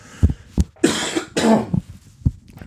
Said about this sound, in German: ich muss da kurz husten.